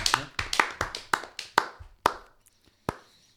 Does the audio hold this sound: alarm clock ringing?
no